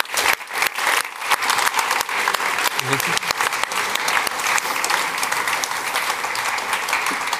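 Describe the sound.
A crowd applauds steadily for several seconds, a dense, even clatter of many hands clapping at a consistent loudness, with a few faint voices mixed in underneath.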